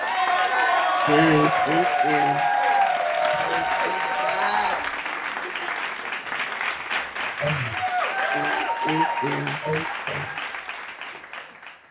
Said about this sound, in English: And we're going to welcome her with a hand clap praise. Amen.